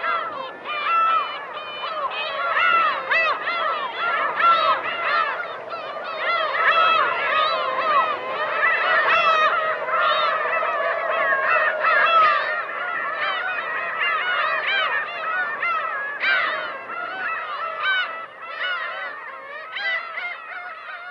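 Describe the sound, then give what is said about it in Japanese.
A large flock of seagulls calls nonstop, their harsh, overlapping cries forming a dense, loud chorus that never lets up, with no voices heard, as they crowd around a harbor covered in brand-new concrete at Torinoumi, a brackish lake facing the Pacific in Watari, Japan. “おびただしい数のカモメたち、真新しいコンクリートで覆われた港のあたりに群がっていました。”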